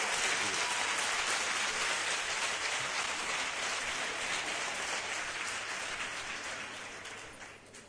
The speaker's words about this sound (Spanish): Un aplauso para mi sobrino